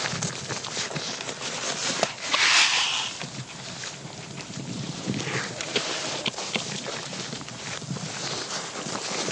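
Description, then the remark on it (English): Close-up crunching and ripping, recorded with the microphone right by their faces, as sheep and lambs (about half of them lambs) tear and chew grass on a farm, a steady stream of irregular crisp bites with light wind noise and no talking. “They make a funny noise when they eat.”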